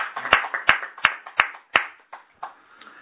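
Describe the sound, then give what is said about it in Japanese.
Applause celebrating someone turning 40, in a steady rhythmic beat: sharp claps about three per second, loud at first and then thinning out and fading over three seconds, with no talking. “満40歳を迎えられましたので盛大な拍手です。”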